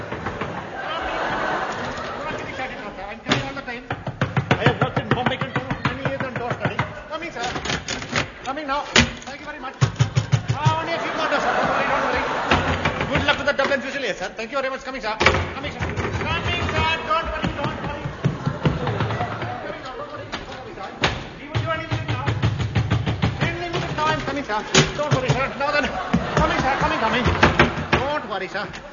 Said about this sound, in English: Coming, sir. Don't worry. Me opening the door, sir. I'm coming, sir.